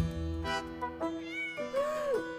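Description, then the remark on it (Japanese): A black cat meows three times in close succession, the last cry longest and drawn out with a rising then falling pitch, clear with no voices over it. “黒猫なんてただの迷信ですから。”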